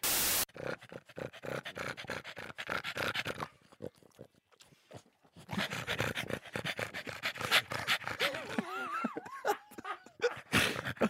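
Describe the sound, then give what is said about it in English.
A pug dog pants heavily and rapidly, a steady wheezy rhythm of breaths with a few brief whiny vocal squeaks near the end; no one speaks. “why are you breathing so heavily? It's not me. Is it because you've got a pug now and now you're getting a bit nervous?”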